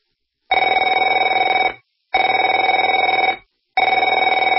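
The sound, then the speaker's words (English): A telephone rings in three long, loud bursts separated by short pauses, its bright trilling bell tone steady and buzzing, with no voices present. “Afraid to answer it?”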